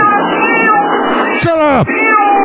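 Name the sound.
cat meowing loudly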